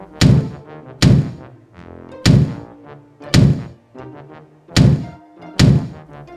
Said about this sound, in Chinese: 来不及进屋的乌龟先生被震动的阶梯一晃，稀里呼噜一路翻滚，最后砰的撞在猫头鹰家门口。